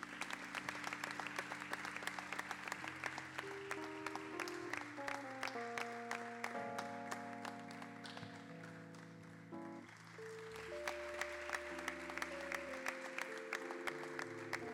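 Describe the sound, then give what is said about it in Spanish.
A crowd claps steadily and loudly for the whole stretch, a dense patter of hands over sustained musical tones that shift in pitch underneath, at an awards ceremony as the first prize of a sung copla contest is presented. “Fuerte el aplauso.”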